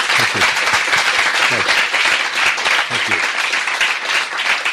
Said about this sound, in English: It's been great talking to you, Andrew. Terrific. Thanks very much. If you can give a round of applause to Andrew.